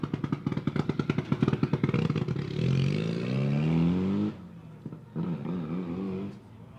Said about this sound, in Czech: Další nám vyjíždí do cíle rychlostní zkoušky, uslyším další motor.